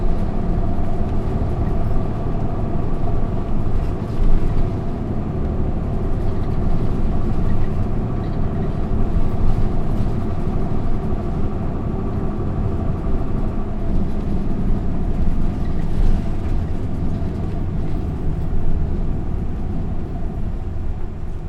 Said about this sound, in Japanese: 次は大杉小学校前でございます。次止まります。バスが完全に停車するまでそのままお待ちください。